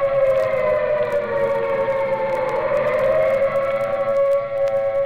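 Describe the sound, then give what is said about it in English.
A loud air raid siren wails steadily, its rising and falling tone sustained for several seconds with rich harmonics, heard alone without any talking. “The siren is a musician of no value, knowing only one tune, which each time played is a disturbance of the peace.”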